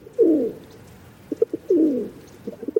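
Pigeons coo in two rolling, throaty phrases, each followed by a few short soft hoots, with no voices present.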